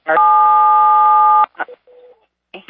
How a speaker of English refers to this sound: Whoever's got the cat walking on the keyboard.